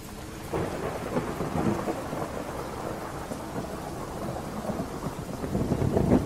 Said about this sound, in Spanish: El cielo sobre la ciudad se oscureció repentinamente, dejando caer una cortina de lluvia torrencial que tamborileaba con fuerza sobre el techo de la morgue del Hospital Universitario de Wellington.